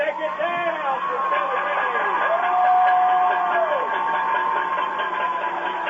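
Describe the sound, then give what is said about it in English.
The Rocket home crowd at a football game on senior night cheers steadily, with many overlapping voices and rising, falling yells and whoops that swell loudest midway, then settle into a sustained roar. “You can hear the Rocket faithful here on the home side. Great atmosphere.”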